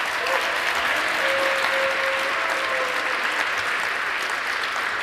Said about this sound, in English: Okay, then please give our speaker a warm round of applause. Thank you.